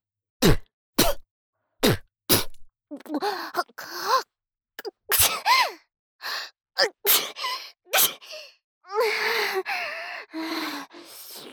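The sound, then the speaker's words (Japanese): A loud series of sharp sneezes, four in quick succession, then more sneezes scattered among drawn-out gasping, breathy wind-ups and snorts. “私も薬飲んでないからくしゃみ出そう。”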